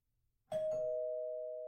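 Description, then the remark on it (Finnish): The doorbell of a felt slipper factory chimes once after a brief silence: a bright two-note ding-dong whose tones ring on and slowly fade, heard alone and fairly soft. “Huopatussutehtaan ovikello soi vaimeasti.”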